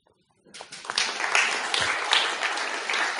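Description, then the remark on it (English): A half-hearted round of applause starts after a short silence, a thin, steady patter of clapping hands at moderate volume that carries on without building, with no voices over it. “And it was, I have to say, that was a very half-hearted round of applause.”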